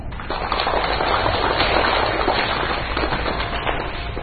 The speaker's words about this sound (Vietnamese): Xin quý vị một tràng pháo tay để cho chị sự chia sẻ rất là chân tình, rất là đầy đạo về sự chân thường.